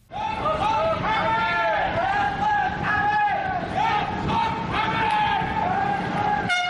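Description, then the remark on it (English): A large crowd of young protesters in Bahrain shouts anti-king slogans in unison, 'Down with Hamad!', demanding the fall of the Bahraini king. The chant is loud and rhythmic, rising and falling in repeated phrases over a steady roar of massed voices. “Down with Hamad! That's what these young protesters are shouting, demanding the fall of the Bahraini king whose clan has ruled for 2 centuries.”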